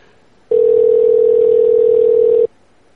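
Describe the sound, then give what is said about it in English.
A loud, steady telephone dial tone hums for about two seconds as a call is placed to a liquor store in Fresno, California, starting and stopping abruptly against a quiet background, with no voices and no dialing beeps. “Anybody want to call Uncle Tom's Liquors?”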